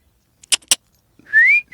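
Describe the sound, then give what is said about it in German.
Two sharp clicks, then a person whistles a single short, rising note to call a muzzled pony, clear, with no talking. “Oh, nicht pfeifen”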